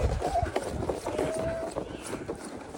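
Quick, rhythmic running footsteps crunch steadily along as a person pulls a sled carrying a child at Lago della Ninfa, over a continuous rough scraping texture, moderately loud throughout.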